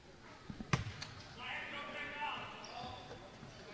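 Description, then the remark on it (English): A basketball is dribbled during the opening quarter of a girls' game between Flora and Lawrenceville, a handful of quick thumping bounces near the start, then fading into the hum of crowd noise and indistinct voices in a large gym. “Out front to Bedwell on the dribble.”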